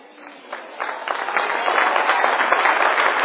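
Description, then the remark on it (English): A crowd of people clapping their hands in praise unto the Lord, starting with a few scattered claps and quickly swelling into dense, steady applause that stays loud to the end. “Oh, clap your hands, all ye people.”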